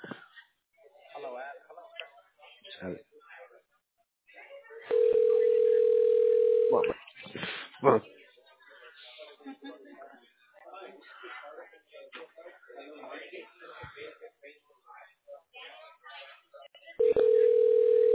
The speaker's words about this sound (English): It's ringing.